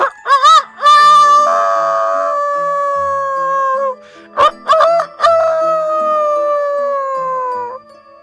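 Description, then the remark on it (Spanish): A rooster crows twice at dawn, loud. Each call opens with a few quick, clipped notes, then stretches into a long, drawn-out final note that slowly falls in pitch. No voices are heard. “Al despertar el alba, según su costumbre, el gallo cantó.”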